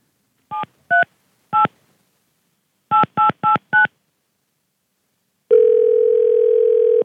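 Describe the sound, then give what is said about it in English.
Touch-tone dialing on a cell phone calling a Pizza Hut while the caller drives on the interstate: three short beeps, a pause, then four quick beeps in a row, followed by a loud, steady tone that holds to the end. No one speaks. “she decided to do a little experiment and call a pizza place to see if, you know, if we can have them deliver the pizza while she's driving on the interstate.”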